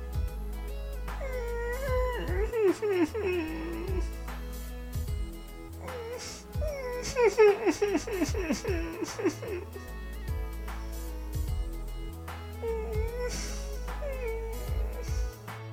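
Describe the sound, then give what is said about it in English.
An animal whimpers in several bursts of high, wavering whines that rise and fall in pitch, moderately loud, with short pauses between the bursts and a low steady hum underneath. “Or not howls, I mean whimpers.”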